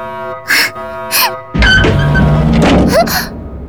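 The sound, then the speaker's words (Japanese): A door with a broken electronic lock slides open with a heavy mechanical thunk and a grinding, whirring rush, preceded by two short hissing bursts over a steady electronic hum. “扉が開いた…なんで…そっか、電子ロックは壊れてるんだ。”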